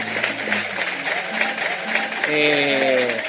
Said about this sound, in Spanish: Bravo. Gracias. Ovación.